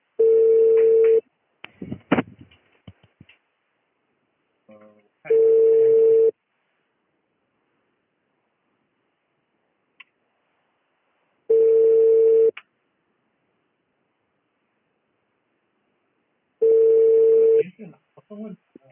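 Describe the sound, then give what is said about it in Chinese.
A telephone ringback tone sounds on an outgoing call: four steady one-second beeps at regular intervals of about five seconds, with faint line clicks and rustling in the gaps. “不是打了两个电话”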